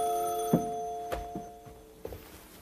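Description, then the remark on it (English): A telephone bell rings with a bright, metallic tone that hangs in the air and slowly fades, broken by a few dull knocks and clunks. No one speaks. “There's somebody at the phone.”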